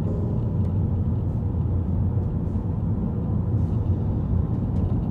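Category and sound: vehicle, car interior driving noise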